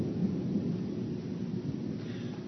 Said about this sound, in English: I don't know if you guys can hear it here. I don't know if you can hear it on that thunder above as we talk about it. I don't think that's coincidence.